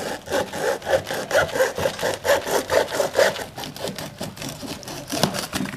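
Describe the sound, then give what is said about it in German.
A fretsaw cuts a hollowed-out tree fern trunk, used as a plant pot, into two halves with quick, steady back-and-forth strokes, fairly loud, the rhythm turning more irregular and scratchy toward the end. No one speaks. “Und den sägen wir jetzt einfach in zwei Hälften. Das macht Olli mal kurz mit so einer Laubsäge.”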